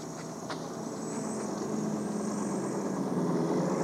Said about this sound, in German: Der Helikopter hebt ab.